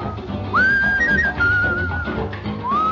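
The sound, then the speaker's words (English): A bright whistled melody in a late-1930s style, combining bird-like and carefree whistling, glides and sustains over a full dance-band accompaniment, with sliding pitch swoops at the start of phrases, sounding like an old recording. “their famous whistler was a singer and a musician named …, and his big record was …”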